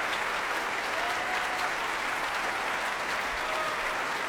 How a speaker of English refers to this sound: That applause, those cheers for Madame Mao, soprano Kathleen Kim.